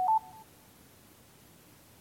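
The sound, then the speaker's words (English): A single short electronic phone beep, clear, sounds right at the start and stops quickly, followed by quiet with no speech; it signals that the phone's TalkBack accessibility feature is turning on after the screen is touched and held with two fingers. “Then touch and hold with two fingers until the beep sounds.”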